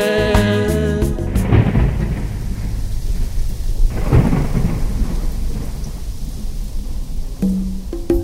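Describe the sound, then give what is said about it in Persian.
A thunderstorm with steady heavy rain throughout, punctuated by deep rolling thunder claps near the start and again midway, loud. No voices are heard. “بارون گفت با رعد و برقم میسوزونمش تا ریشه تا که آثاری نمونه دیگه از درخت و بیشه.”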